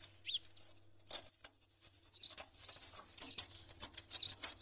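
Bursts of fluttering wing flaps scrape and rustle as a small sparrow is trapped in a fireplace, having likely come down the chimney, with faint high chirps, all heard alone at low volume with a steady low hum underneath.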